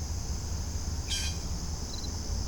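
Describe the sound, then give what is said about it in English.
A single short, harsh blue jay call rings out mid-way at a creek, over a steady high insect drone and low outdoor rumble; a faint brief chirp follows. No one speaks. “Some bird action going on, but I think all this bird action might just be because these blue jays are being cranky.”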